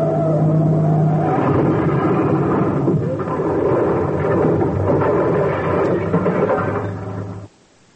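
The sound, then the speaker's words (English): A car engine roars and revs steadily for about seven seconds while the car is being driven, loud and rumbling with a gritty, rushing noise, then cuts off abruptly into silence. No one speaks. “So we drive between them, park the car, and see what's up with Mary Jane's sister.”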